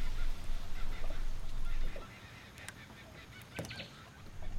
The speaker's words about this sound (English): Picture the gentle rustling of leaves, the distant calls of birds, and the soft lapping of water against the shore.